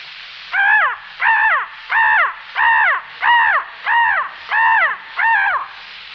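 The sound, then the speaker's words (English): A voice imitates a crow, giving eight loud, harsh caws in a steady, evenly spaced rhythm, with no other sound around them. “And one of the most destructive of all birds, the crow.”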